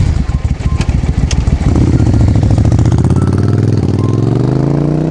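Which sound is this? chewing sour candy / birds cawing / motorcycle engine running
motorcycle engine running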